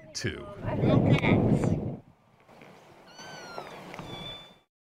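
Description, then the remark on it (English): A cat meows: a loud, rough yowl first, then a quieter, drawn-out wavering meow that trails off into silence. “Probably a cat.”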